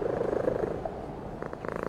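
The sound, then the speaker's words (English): A cat purrs in a steady, low rumbling rhythm, the sound continuous and fairly soft, with a slight shift in tone toward the end. “Oh, well, if you're purring, that's a whole different situation.”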